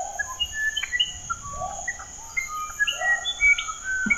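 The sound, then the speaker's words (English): Bird song: a lively string of clear, whistled notes and short chirps that jump between pitches, played over a steady high buzz, with no voices. “And here's the song.”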